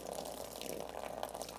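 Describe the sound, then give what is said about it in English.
A steady stream of liquid splashes continuously as it is poured and overflows a container on a stage into a bucket, with a constant hissing, trickling wash and no talking. “by the way, y'all are thinking I'm pouring this stuff on the stage, there actually is a bucket that it's all going”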